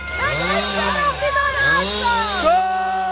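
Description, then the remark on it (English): A chainsaw engine revs up and down in repeated surges, its buzzing whine rising and falling in pitch, loud throughout the short stretch, as police use chainsaws to break through activists' barricades during the eviction of tree houses in a forest. “Police used chainsaws to break through barricades and pulled activists from the trees on cherry pickers.”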